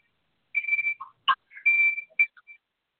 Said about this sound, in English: Why is it beeping like that?